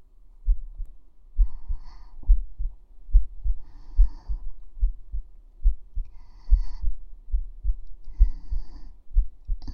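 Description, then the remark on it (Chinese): A steady human heartbeat, heard with a foot pressed against the person's chest, thumps in low, muffled pulses, with soft breathing swelling faintly in and out behind it; no one speaks. “听着奴婢的心跳”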